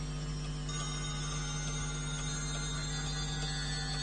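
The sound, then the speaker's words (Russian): A clock ticks and strikes in a studio, fairly loud, with sustained metallic ringing tones that hold steady throughout, and a few faint clicks beneath them. “часы в студии серебряного дождя уже начинают стучать чуть громче, как вы видите, и бить все более и более устрашающе”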